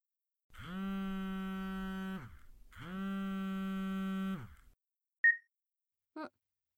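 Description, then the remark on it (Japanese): A phone rings for an incoming call: two long, buzzy electronic tones with a short pause between, followed by two brief clicks or blips, with no talking. “ちょっと電話来たみたいだから、そのまま舐めてろ。”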